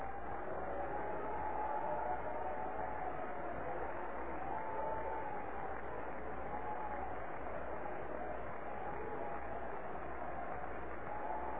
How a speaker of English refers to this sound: Stand to your feet and clap your hands and shout unto Jesus.